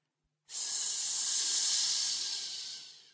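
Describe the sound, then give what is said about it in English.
A snake's hiss, one long, sharp, breathy sound that starts abruptly, holds steady and loud for nearly three seconds, then slowly fades. No voices. “heard hissing sounds in the darkness around him.”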